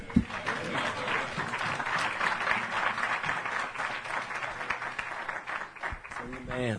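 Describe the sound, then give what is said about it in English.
A church audience applauds a pastor steadily for about seven seconds, dense overlapping clapping holding at an even loudness, with brief bits of a voice heard at the start and again near the end. “Why don't you give Pastor a big round of applause?”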